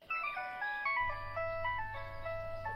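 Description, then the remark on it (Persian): A phone rings with a bright, tinkling melodic ringtone, a quick sequence of stepping electronic notes played clear, with a low steady hum underneath for the latter part. “مادر جان باشین که من تلفن خدا جواب بتم.”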